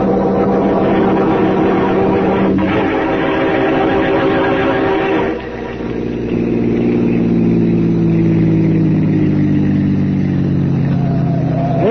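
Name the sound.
car engine driving away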